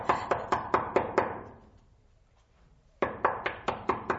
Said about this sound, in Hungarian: Itt kopog.